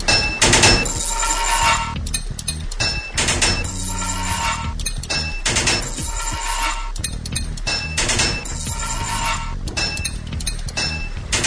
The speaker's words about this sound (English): 10 total pipes to fit this level. 3 hits of your hammer to fit a pipe.